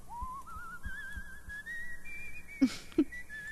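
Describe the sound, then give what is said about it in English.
A man whistles a slow, rising horror theme tune as he walks off, in a thin, wavering tone, carrying steadily over faint background noise, with two sharp knocks or footstep-like thuds near the end. “as he's walking off, he's whistling the Tales from the Crypt song”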